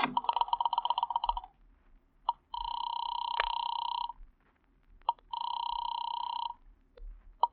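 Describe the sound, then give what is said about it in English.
A hotel room telephone at the Grand View Hotel rings in two long, steady electronic bursts separated by a short pause, clear and fairly loud, after a brief buzzing noise at the start and with no talking. “I'll ring his room, sir.”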